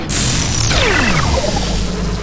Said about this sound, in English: Power up. Power down.